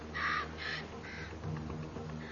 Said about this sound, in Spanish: Las fachadas de granito de Yosemite son un paraíso para aves que anidan en las rocas como estos cuervos comunes.